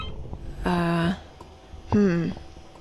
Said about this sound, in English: Let's see. What line is ringing?